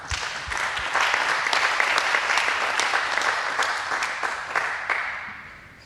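A crowd bursts into sustained applause, a dense wash of many hands clapping at steady loudness for several seconds before gradually thinning and fading out.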